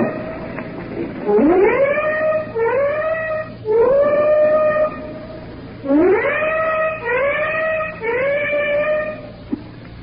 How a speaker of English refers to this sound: Our own ship has just gave its warning whistles, and now the flak is coming up in the sky in streamers from the warships behind us.